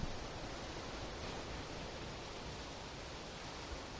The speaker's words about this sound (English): Is that, no, it's not static. It's not a fan. It's that, ladies and gentlemen, is the glorious, beautiful, mind-bogglingly awesome Pacific Ocean, ladies and gentlemen. That's what that is. I am in Ventura, California, coming to you live,